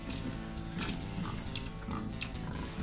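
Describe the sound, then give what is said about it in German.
Pigs grunt steadily in a loose, repeating rhythm, with low rumbling snorts overlapping one another, loud, with no voices present. “Die Schweine grunzen im Takt.”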